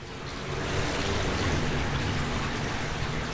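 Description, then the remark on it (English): Steady rushing water of a buried creek flowing beneath a manhole grate beside a four-lane roadway jammed with cars, recorded with a microphone poked through the grate: a dense, continuous wash with a faint patter in it, echoing slightly from below. “But Amir insists, if I listen, the creek is there.”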